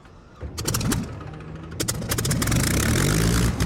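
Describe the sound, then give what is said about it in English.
The powerful propeller engine of a Supermarine Spitfire runs loudly, its deep rumbling drone rising in pitch as it revs, with sharp mechanical clatter over the steady roar. “You got to the stage where the engine was so powerful.”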